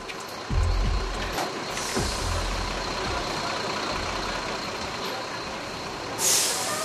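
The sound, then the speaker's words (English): Heavy buses rumble low and steady as they pull in, bringing migrants caught in Mexico heading north back to villages and cities in El Salvador, with sharp bursts of air-brake hiss cutting through, one early on and a louder one near the end; no voices. “Buses bringing migrants caught in Mexico heading north to the USA back to villages and cities in El Salvador, apprehended or deported by the authorities.”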